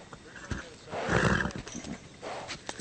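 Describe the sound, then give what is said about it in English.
A wild mustang horse lets out a loud whinny that swells and fades, with shorter snorting bursts and scuffling around it. “The Army has dealt with wild horses before.”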